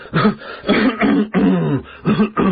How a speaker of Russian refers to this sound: За его спиной раздалось вежливое покашливание.